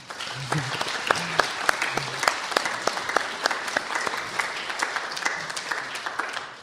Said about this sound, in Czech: Tak já bych vás poprosil, abychom mu zatleskali.